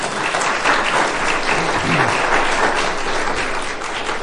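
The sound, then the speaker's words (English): A church audience applauds a man steadily, a dense wash of clapping hands that stays fairly loud and even for about four seconds, with no voices standing out. “Could you give him a little round of applause?”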